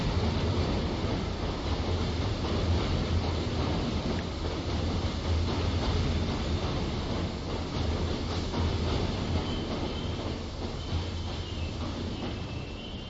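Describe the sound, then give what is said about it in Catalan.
A train braking as it pulls into a station, a steady rumble of wheels and carriage noise that eases off slightly toward the end, with no voices. “Perquè el tren està arribant a l'estació, ja.”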